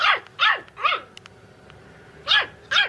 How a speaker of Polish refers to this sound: Chyba szczekanie psa. Szczekanie psa. Lubimy tak, lubimy jak psy szczekają. Mały piesek szczeka czy duży? No, taki nie bardzo groźny.